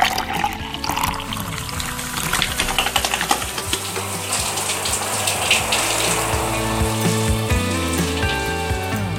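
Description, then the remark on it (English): Water runs steadily from a tap at a house in the early morning, when chickens are being fed and watered, a continuous splashing hiss with some gurgling, holding at an even level for several seconds with no talking. “so I figured that on nearly every day of the week, I use water maybe 5 times in at least 3 different locations in my house or yard, all before like 6:30 in the morning.”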